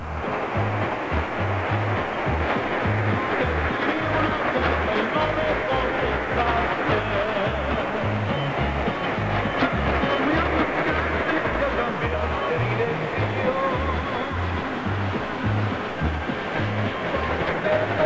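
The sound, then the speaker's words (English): An AM radio station at 1540 on the dial, in Spanish, comes through a steady wash of static hiss, the voice fairly clear, with a rhythmic low throbbing pulsing underneath the whole time. “The Spanish is cutting through pretty well, but you can still hear that hiss.”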